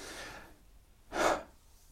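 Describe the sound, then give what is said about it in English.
Airy breathing with no talking, demonstrating a slow inhale then exhale: a soft breath trails off at the start, a short pause follows, then a brief, louder rush of breath that fades out. “You know, for me, what seems to happen is that as I breathe in, as I start to breathe in, the first part of the intonation from a stopped breathing between inhale and exhale.”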